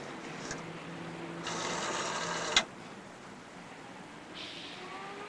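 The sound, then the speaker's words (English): A rotary telephone dial on a phone with a coin slot is turned to zero, then whirs back with about a second of steady ratcheting buzz that ends in a sharp click. It is clear, with no voices. “Selena grins and traces the number holes with her forefinger. This one? Mm-hmm, that's the one. She dials zero on the phone.”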